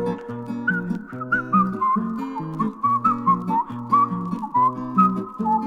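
A thin, bright whistle, from a rubber hedgehog whistling through the holes in its right side, carries a wavering tune over steady, bouncy accompaniment with repeating low chords. The whistling stays clear and up front throughout, with no voices.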